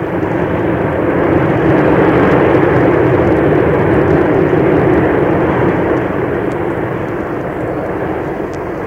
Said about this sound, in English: Well, there, to the tremendous roar of power of those four Rolls-Royce Avon engines, each of them giving something around 10,000 pounds of thrust, in other words, twice the power of the original Comets, the Comet 3